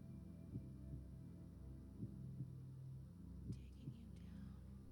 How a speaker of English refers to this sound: And that heartbeat, so rhythmic.